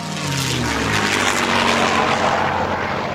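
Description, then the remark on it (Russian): A Soviet Polikarpov Po-2 (U-2), a single-engine two-seat multipurpose biplane first built in 1927, drones steadily, its buzzing engine tone sliding slightly lower as it passes, with loud rushing air noise throughout and no voices. “У-2 или ПО-2 – советский многоцелевой одномоторный двухместный биплан, созданный под руководством Николая Поликарпова в 1927 году.”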